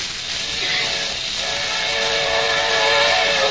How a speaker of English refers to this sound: Now be careful, Kelowna. There's a train coming.